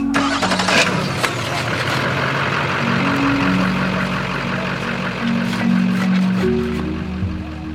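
A truck engine idles steadily, a low rumbling drone with shifting tones that runs without a break. A faint hiss of outdoor noise sits underneath, and no one speaks.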